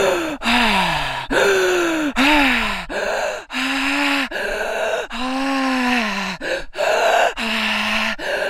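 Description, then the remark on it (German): Loud, wild breathing through the mouth: a rapid, uneven run of about a dozen forceful voiced gasps and groaning exhales, each pitch sliding, with only brief breaks between them. “Du beginnst durch den Mund zu atmen und zwar wild und chaotisch mit mir gemeinsam.”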